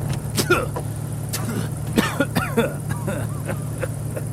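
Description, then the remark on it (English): An old jalopy rumbles along with a steady low engine drone, punctuated by irregular rattles, clunks and squeaks as it bounces over a rough surface, heard from inside. “But you'll have to bear this rocky jalopy for a little while, won't you?”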